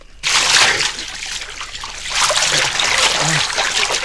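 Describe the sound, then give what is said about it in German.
Water splashes and sloshes loudly as a torn jacket with red reflective strips is hauled out of the water, a steady broad wash of splattering and dripping that surges again midway through, with no talk. “Da, im Wasser, was ist das? Wie das leuchtet. Unheimlich. Immer mit der Ruhe, Jungs. Das ist... Ich hole es raus.”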